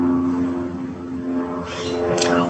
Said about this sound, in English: Sorry, that's like a airplane or something? Airplane, cool.